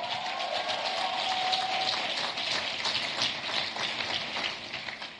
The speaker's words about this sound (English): So, now you may want to clap. Don't hold back.